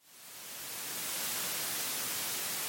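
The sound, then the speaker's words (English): Steady white noise hisses across the whole range, fading in over the first second and then holding at a constant, moderately loud level with no voices or other sounds. “White noise, to me, sounds like a TV that should have been turned off.”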